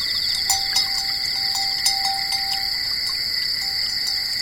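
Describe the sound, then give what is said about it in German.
The bell of Bossi, a resting cow on a lower-lying pasture, clanks a few times at an unhurried, irregular pace as she wards off mosquitoes, over a constant, shrill chorus of night-flying insects and crickets, with a faint thin tone hovering in the background. “Und vom tiefer gelegenen Weidplatz her klingt der verschlafene Ton einer Kuhglocke.”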